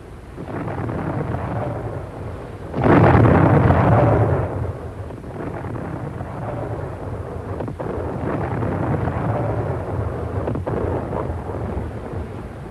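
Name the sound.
depth charges exploding underwater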